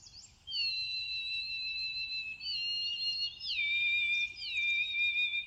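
Birds singing in long, pure, high whistled notes that hold steady and then step down in pitch, like a slow melody. The song is continuous and fairly loud, with no talking.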